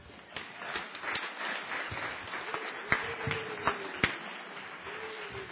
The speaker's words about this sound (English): They clap for you